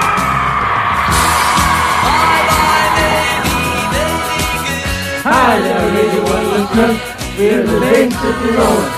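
A crowd of girls screaming and throwing themselves at a visiting pop band, a loud, continuous din, with piercing high-pitched shrieks rising and wavering over the noise in the second half, alongside scattered thumps and bangs.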